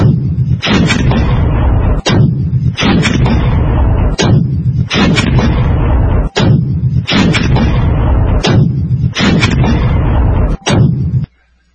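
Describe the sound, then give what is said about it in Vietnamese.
Heavy shelling from two 82mm mortars firing from about 2 kilometres away, a rapid series of loud, booming blasts, about one every second, each with a sharp crack and rumbling tail, continuing steadily for over ten seconds with no voices. “Tôi đoán chắc rằng việc cậu đang pháo kích chúng tôi bằng cối 82, điểm đặt súng cách chúng tôi chừng 2 cây số.”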